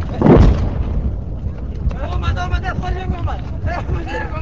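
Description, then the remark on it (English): A load of aerial bombs lands in a field less than a mile away in Afghanistan, with a B-52 bomber overhead, exploding with one deep, rumbling boom that quickly fades into a steady low roar, after which people start talking over the background noise. “One load of bombs lands in a field maybe less than a mile away.”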